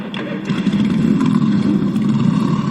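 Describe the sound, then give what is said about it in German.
A loud, dense roar of many motorcycle engines revving together at the close of the 33rd MOGO event, riders letting their motorcycles sound in praise of God; a continuous rumbling wall of sound with overlapping throttle surges and no voices. “MOGO, ich darf euch bitten, zum Abschluss der Veranstaltung, zum Lobe Gottes, noch einmal eure Motorrad sprechen zu lassen.”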